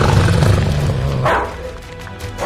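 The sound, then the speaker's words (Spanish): A dog growls low and steadily, then lets out a sharp bark partway through, followed by a brief rumbling pause and a second quick bark at the end, as it chases a running person and nearly catches up. “¡Corre, corre! ¡Ya estás cerca! ¡El perro casi te alcanza!”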